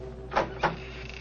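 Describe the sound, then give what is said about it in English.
A wooden door, its latch lifted, creaks open in two short, scraping squeaks close together, over a faint steady background hum, with no one talking. “I found the latch and lifted it. The door squeaked open protestingly.”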